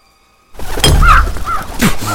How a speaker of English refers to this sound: Oh, Jesus Christ, what was that? A crow hit the window.